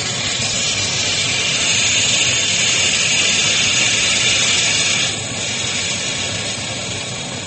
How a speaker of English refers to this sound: Rubber boat all spread out. All right. Puncture the compressed air capsule.